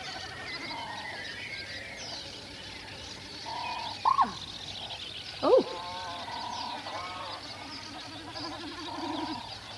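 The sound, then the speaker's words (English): A snipe's drumming comes in repeated, tremulous, pulsing bleats over a busy wetland dawn bird chorus, including black-headed gulls on a raft, with two louder, sharper calls cutting through midway. “will you just explain that sound of the snipe, how it's making that sound?”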